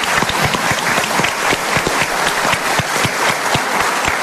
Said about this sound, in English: For those of you in Stratton Hall, give yourself a round of applause. What a great crowd we have here tonight.